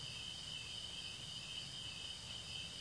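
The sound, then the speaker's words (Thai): A steady, continuous chorus of crickets chirping, high-pitched and constant throughout, fairly quiet with a faint low background hum and no voices. “เหมือนเสียงจิ้งหรีดในขณะนี้เสียงจิ้งหรีดไม่ได้ทำลายลมของเราลมยังเข้ายังออกอยู่”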